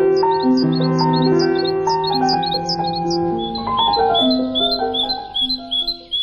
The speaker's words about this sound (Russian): «Птицы зимой». Записи Ирины Петерс.